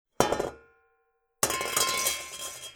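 A metal frying pan crashes onto a hard floor with a bright clang and a ringing tone that fades, then a second, louder clattering impact rattles and rings on. No voices.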